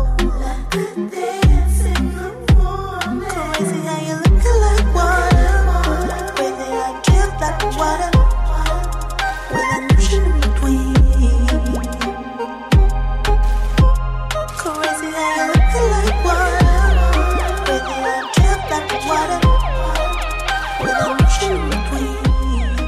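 A smooth electronic R&B track plays loud and close, with a steady thumping bass beat, warm layered synth chords and a bright melodic line, no talking over it.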